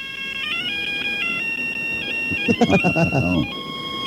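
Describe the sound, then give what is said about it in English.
A cell phone ringtone plays the Dixie tune as a bright electronic melody of stepping beeps, steady, with brief voices rising over it partway through; a caller plays it over the phone on the Don and Mike radio show. “Hey, I got a little ringtone here”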